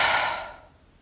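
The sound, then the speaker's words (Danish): A single breathy, airy exhale, strongest at the start and fading out over about half a second into near silence. No talking. “Og pust ud.”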